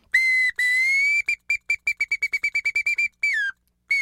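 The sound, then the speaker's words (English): A bamboo bird whistle mimics a song sparrow: two held notes, then a quick run of about a dozen short chirps, ending on a longer downward-sliding note, clear and close with no talking. “In this show, we use a bamboo bird whistle to demonstrate variations in the song of a single song sparrow.”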